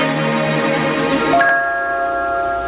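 A bright, ringing bell tone sustains throughout, with a second clear chime struck partway through and left to shimmer and fade; no one speaks.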